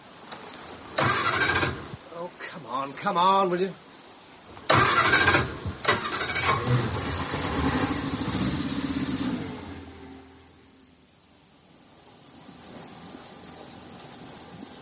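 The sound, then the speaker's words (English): A boat engine cranks in stuttering bursts, then catches and runs loudly before settling into a quieter, steady idle. A voice briefly speaks over the cranking. “Stand by. I'm going to start the engine.”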